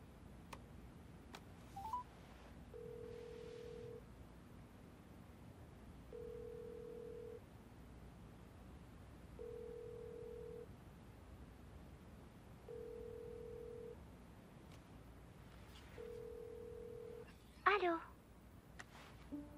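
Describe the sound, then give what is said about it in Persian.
A telephone rings five times in an even rhythm, each ring a steady low electronic tone lasting about a second, over a constant low hum, with a brief sharp noise near the end. “کی تماس گرفته؟”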